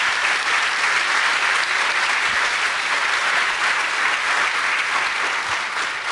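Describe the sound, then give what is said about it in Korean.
Steady applause from an audience thanking the dean of Korea University's medical school for a lecture, a dense wash of many hands clapping at an even, loud level for several seconds with no voices standing out. “정말 훌륭하신데 오늘 귀한 강의를 해주셔서 얼마나 감사한지 우리 한번 박수로 다시 한번 감사드립니다.”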